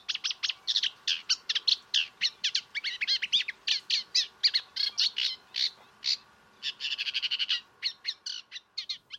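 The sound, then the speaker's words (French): A Eurasian reed warbler, a small brown bird, sings a long, steady run of scratchy, chattering notes in quick repeated groups, fairly loud, with no voices. “La rousserolle effarvate, petit oiseau brun, installe son nid accroché à des tiges de roseaux suspendues au-dessus de l'eau.”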